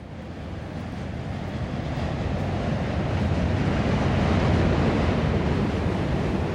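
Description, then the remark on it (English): A continuous, heavy rumble of B, D, N and Q subway trains crossing the Manhattan Bridge overhead, heard from Main Street, a two-block cobblestone stretch in Dumbo, Brooklyn, New York City. Loud and low-pitched, swelling slightly toward the middle and holding steady with no voices. “It's the sound of the B, D, N, and Q trains rumbling over the bridge.”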